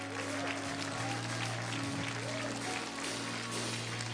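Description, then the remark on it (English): An audience at a church service claps steadily together for people who have just been saved, a dense, continuous wash of many hands lasting throughout, with a low sustained hum from the sound system underneath. “You and your friends, you guys can just follow her over to your left as we keep on clapping for them.”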